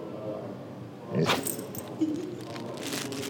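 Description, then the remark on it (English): A dog lets out a short, soft, subdued bark on the command to speak, followed a moment later by a fainter little vocal sound, against quiet background noise. “That's his library voice. He could do a big outdoor bark, but he doesn't like to.”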